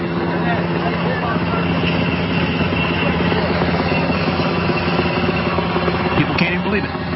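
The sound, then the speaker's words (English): A helicopter roars low overhead, hovering over a camp and kicking up everything below, its steady rotor chop and engine drone filling the whole stretch without a break, loud and constant throughout. “That helicopter just came around here and kicked up everything.”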